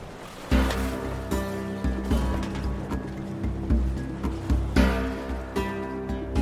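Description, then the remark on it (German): Sea waves surge and wash repeatedly around a sailing boat on the Indian Ocean, with a steady low rumble and faint tonal creaks rising over the swell. No voices are heard. “Sie verließen die Insel Sumatra und fuhren 18 Monate durch das Indische Meer, bis sie ihr Ziel erreichten.”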